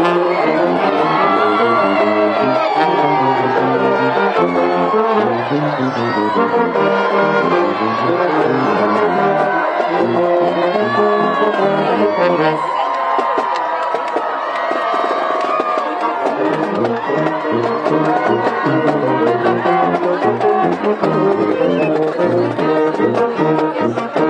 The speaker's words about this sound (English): And as you hear right there, we just wanted you to see that moment and hear all of the celebration that is going on as the players get on the bus. You got the band, you got students, you got lifelong MAC members all here to witness this moment.